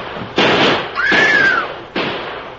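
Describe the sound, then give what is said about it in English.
Three sharp gunshots ring out at uneven intervals, each with a loud crack and a lingering tail; a whining ricochet follows the second shot. “Drill him, shoot him.”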